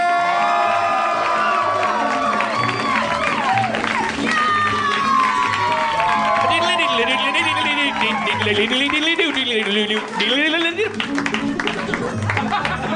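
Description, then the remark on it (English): A lively live audience cheers, whoops and shouts loudly and continuously as a host is welcomed to the stage, with scattered clapping and overlapping excited voices throughout. “What a lively crowd.”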